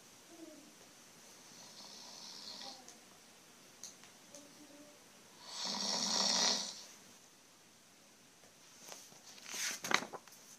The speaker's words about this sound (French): Le roi ronfle fort, si fort, qu'il aspire la mouche par le nez et l'avale.